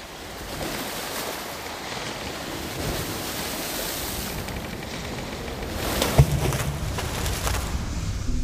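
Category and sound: nature, stormy sea waves crashing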